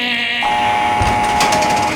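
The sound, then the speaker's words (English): A heavy steel prison door onto the tier opening electrically: a loud, steady, harmonic buzzing drone that shifts pitch partway through, with a few rattling clanks near the end and no talking. “Coming onto the tier, it's a heavy steel door, and it opens electrically, which means you hear...”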